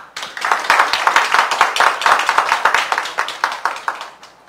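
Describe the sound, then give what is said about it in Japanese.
A church audience at a worship service claps together in thanks to the Lord, a dense, sustained burst of many hands, steady and loud for about four seconds before thinning out and fading at the end. “それでは、ご臨在の主に感謝の拍手をしてまいりましょう。”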